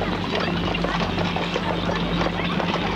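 Horse hooves clip-clop in a steady, repeated rhythm as a horse-drawn carriage rolls along a busy Paris street among fiacres, omnibuses and calèches, set against a dense, continuous wash of street bustle and faint murmuring voices.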